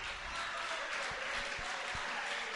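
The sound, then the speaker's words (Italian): An audience applauds steadily, a dense wash of many hands clapping at even volume for a few seconds with no voices on top, welcoming an Italian performer as he prepares his small ukulele. “Un applauso a lui e poi vi dico due cose mentre attaccherà il suo piccolo ukulele mentre si prepara.”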